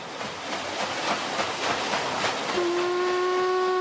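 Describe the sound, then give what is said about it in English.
A small steamer travelling up the Congo sounds its whistle: rhythmic hissing chuffs of steam give way to a long, steady whistle tone with a rich, low-pitched hum that holds to the end. “In August 87, I was travelling on a small steamer up the Congo.”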